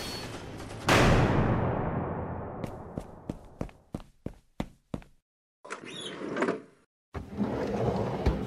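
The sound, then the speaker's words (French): In an office, blinds rattle shut with a loud crash that rings out, then a quick run of sharp clacks and knocks, followed by heavy scraping and dragging as furniture is pushed against a door to barricade it. “Mettez-vous sous le bureau, je vais fermer les stores. Je m'occupe de barricader la porte.”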